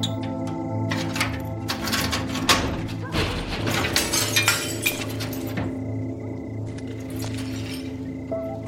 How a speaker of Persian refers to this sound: اسماعیل شیشه های اتاقک رو میشکنه و قفل در رو باز میکنه.